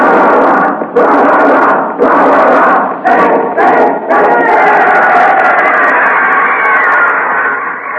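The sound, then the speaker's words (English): A big crowd at a football game roars loudly, its cheering breaking into a few short surges at first, then swelling into one continuous, sustained wall of noise. “The crowd roared.”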